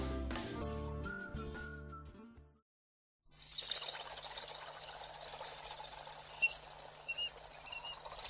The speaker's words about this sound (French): Entendez-vous l'eau espiègle des ruisseaux dévaler en riant les creux des roches noires?